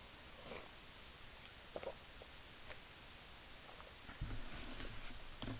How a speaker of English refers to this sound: And I'm going to take a sip of tea, and then we will read 171 from the book.